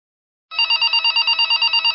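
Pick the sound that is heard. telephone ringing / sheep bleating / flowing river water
telephone ringing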